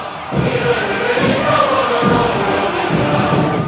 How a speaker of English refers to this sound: At the military parade celebrating 70 years of Communist Party rule, crowds cheered, tanks rolled, and Xi Jinping smiled.